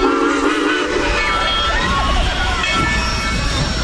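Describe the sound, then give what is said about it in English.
An old steam locomotive on the Texas State Railroad in Texas, pulling vintage passenger rail cars on a Christmas train ride, rumbles and hisses loudly and continuously, with dense clattering noise and shifting whistle-like tones layered over the steady roar. “But still, they gape in amazement at the old belching steam engine and the vintage passenger rail cars.”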